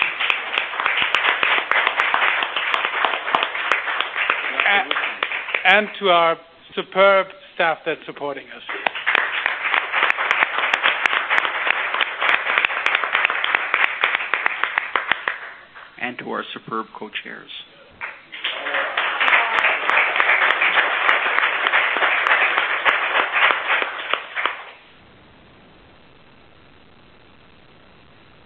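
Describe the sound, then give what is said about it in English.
An audience at a meeting breaks into sustained rounds of applause for the technical support team three times, each burst loud and dense, with a person speaking briefly in the pauses between them. “I think you have, actually, and I think we owe a big round of applause to the technical support team for making everything run so smoothly.”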